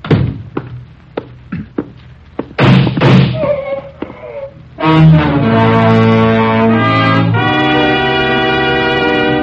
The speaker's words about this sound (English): Shots came from Slater's room.